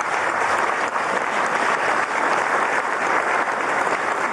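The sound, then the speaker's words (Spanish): A crowd applauds the women workers who built the facility being inaugurated, a dense wash of many hands clapping at an even, fairly loud level throughout, with no voices standing out above it. “Un aplauso a las trabajadoras, que fueron la mayoría que hicieron.”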